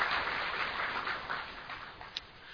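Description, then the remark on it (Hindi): A crowd applauds steadily to congratulate themselves, a dense wash of many hands clapping at once that gradually thins toward the end, with one sharper clap near the close. “तो एक बार ताली बजा के अपना अभिनंदन कर लो।”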